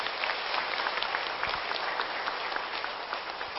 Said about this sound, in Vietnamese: Hãy tất cả dâng cao tràng vỗ tay thật lớn để tán dương.